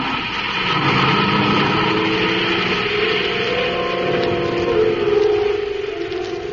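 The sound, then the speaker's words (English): A steady surface car engine hum drones continuously for several seconds as the car drives through the city to the spaceport and glides through a gate, with a rising, slightly whining tone near the end, at moderate volume with no voices. “The reluctant Ropnar drives through the city to the spaceport. As the car glides through the gate, Buzz presses the control switch and the robot guard stands motionless.”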